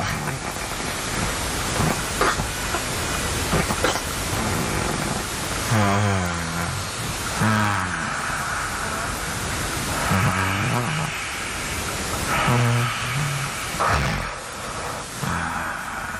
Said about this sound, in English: They're coming from our friend who was came to see us perform and stayed in our room as well. And it's the sound of him snoring.